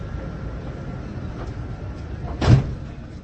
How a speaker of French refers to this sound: Ukončete prosím výstup a nástup, dveře se zavírají.